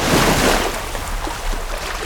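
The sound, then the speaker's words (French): A big ocean wave crashes in a loud, broad roar of rushing water at the start, then settles into a steady churning wash of surf and spray. “Son arrivée a provoqué une immense vague.”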